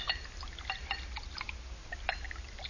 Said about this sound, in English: Here, I'll pour us a toast.